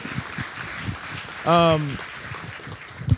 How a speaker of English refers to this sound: So if you just want to go ahead and clap for God bringing us the right people.